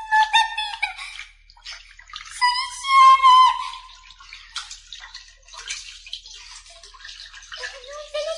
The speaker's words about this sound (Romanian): În clipa aceasta, auzi un plioscăit și se îndreptă într-acolo. La început crezu că e o morsă sau un hipopotam, apoi, amintindu-și că e mică, își dedu seama că-i doar șoarecele care căzuse în apă